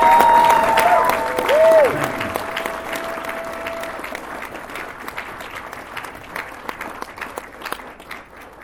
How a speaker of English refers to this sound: So a big round of applause for these two guys.